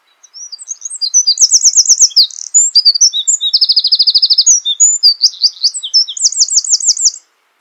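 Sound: wren singing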